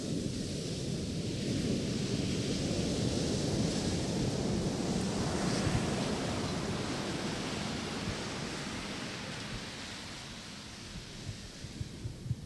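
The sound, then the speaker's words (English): Ocean waves wash steadily onto the beach, a continuous broad rushing surf that swells and slowly recedes, fairly loud, with wind noise over the microphone and no voices. “The ocean is coming.”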